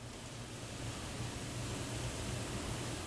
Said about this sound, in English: The Food Science Kitchen at the University of Arkansas produces its own kind of rhythm. Freezers, mixers, and other machines hum along as local entrepreneurs work on their recipes.